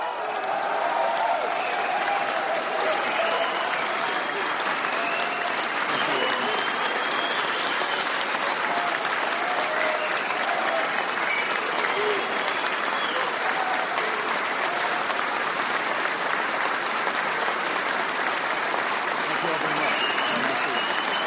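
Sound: standing applause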